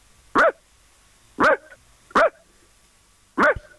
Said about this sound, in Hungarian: 9 voltosról megy, egy hangszíne volt. Ez egy Oscar-díjas ugatásnak kellett, hogy legyen.